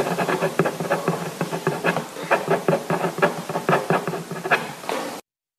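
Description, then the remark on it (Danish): A ballpoint pen, pressed down hard, scratches firmly across paper as a name is written, in quick, irregular strokes, a steady rasping texture broken by short sharp taps, with no voices, lasting about five seconds before stopping abruptly. “Der er i hvert fald godt tryk på pennen, kan man sige.”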